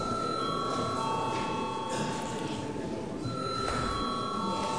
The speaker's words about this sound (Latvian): Paldies, lūdzu zvanu.